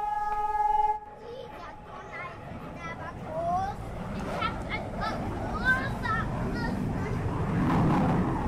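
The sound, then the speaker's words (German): A brief horn-like tone opens, then a lively outdoor din of children playing, with many high, overlapping shouts and chatter over a steady low rumble. “Kinder spielen weiter.”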